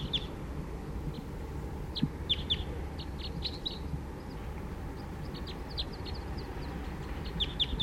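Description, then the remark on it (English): A wild bird sings in short, bright, high-pitched chirps, delivered in quick clusters with brief pauses, fairly soft over a steady low rumble of background noise. No one speaks. “And song by a wild bird there.”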